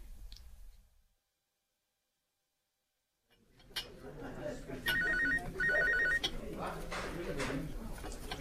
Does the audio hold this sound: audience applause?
no